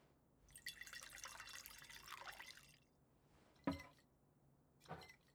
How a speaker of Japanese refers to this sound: ん？ああ、いいっていいって。私は自分で注ぐから。気を使ってくれてありがとう。